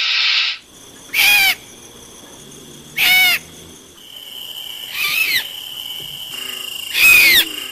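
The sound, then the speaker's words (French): A barn owl gives a series of harsh, shrill screeches, about four or five rasping bursts spaced roughly every second or two, each loud and hissing with a high, grating pitch. “Alors voilà, elle ne hurle pas du tout, elle a un cri extrêmement strident et qui est un petit peu effrayant.”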